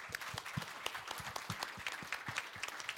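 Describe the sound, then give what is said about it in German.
A burst of audience applause, dense overlapping hand claps forming a steady, moderately loud patter for a few seconds with no voices on top. “Also erstmal Applaus.”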